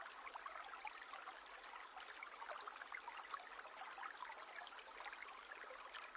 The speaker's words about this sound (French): L'eau coule sur les pierres, formant ici et là de petites cascades blanches qui emportent les feuilles et les branchages sur leur chemin.